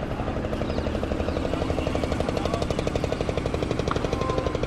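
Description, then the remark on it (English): A boat engine chugs steadily as the boat goes by on the Ganges river, a fast, even pulsing throb that stays loud throughout, with no voices. “This boat going by, out on the Ganges.”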